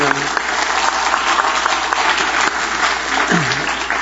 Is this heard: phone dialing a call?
no